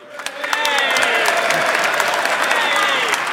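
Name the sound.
audience cheering and applauding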